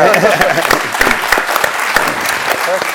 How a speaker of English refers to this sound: Go ahead if you want to applaud. Yeah.